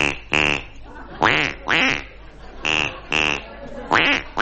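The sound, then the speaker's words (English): A duck quacks loudly, eight nasal quacks delivered in four quick pairs with short pauses between them, with no talking. “It's a little duck joke.”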